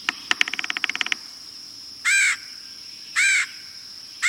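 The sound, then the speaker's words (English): A quick burst of rapid tapping, then three loud, harsh, raspy calls of a red-headed woodpecker spaced about a second apart, clear with no talking. “There are ways we can help the red-headed woodpecker.”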